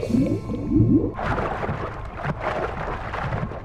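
A few short, low calls from Betty the Whale, back from a search around the Pflugerville Ocean, sweep upward over the first second, then give way to a steady rushing wash of water that fills the rest, moderately loud.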